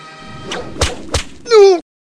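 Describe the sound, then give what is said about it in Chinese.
Three sharp whip lashes crack in quick succession, loud, followed by a short, strained cry that cuts off abruptly into silence: the villain Hu Hansan whipping villagers in the mountain village of Liuxi. “这时候，一位名叫吴修竹的红军叔叔来到了柳溪村，看到村民们被恶霸胡汉三的鞭子抽打。”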